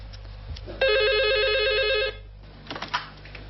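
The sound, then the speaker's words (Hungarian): A telephone at the Debrecen emotional first-aid telephone helpline in Hungary rings once in a steady, warbling electronic trill lasting over a second, then stops abruptly as the call is answered, followed by faint handling noises and a low background hum. “Lelki Első Segély Telefonszolgálat, jó napot kívánok!”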